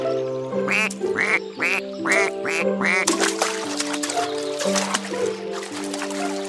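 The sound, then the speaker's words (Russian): Ducks quack repeatedly in a quick series of loud, nasal calls, followed by busier overlapping quacking with some splashing or trickling water sounds in the background. “А нам это... уточки мешают. Ага, все крякают и крякают.”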